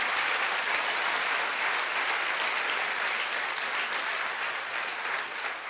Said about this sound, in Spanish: ¿Cuántos le dan un aplauso al Rey de Reyes, ese Señor de Señores?